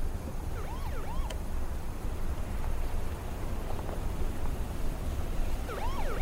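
The siren of an approaching car wails in short rising-and-falling bursts, fading in early and returning near the end, over a steady low rumble of engine and road noise; no one speaks.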